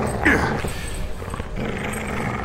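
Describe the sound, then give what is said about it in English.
A dog named Arrow growls, a low rough rumble that carries on steadily, with a short sharper vocal burst near the start. No one speaks. “Come here, Arrow. Stop! Calm yourself, Arrow.”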